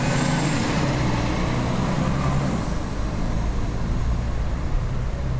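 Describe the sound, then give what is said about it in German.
A city bus at Moritzplatz rumbles along with a steady, loud low engine drone and road noise, its pitch shifting slightly as it slows. No voices are heard. “Oh, der Bus war gleich am Moritzplatz. Hier war es wohl am günstigsten auszusteigen.”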